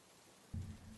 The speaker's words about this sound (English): that is music to the ears of farmers and pastoralists in the ASEL counties. However, in recent years, this sound has become a rare occurrence, and when it does rain, it is often too much, causing floods and landslides that destroy crops and homes.